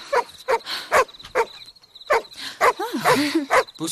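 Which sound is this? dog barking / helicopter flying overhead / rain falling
dog barking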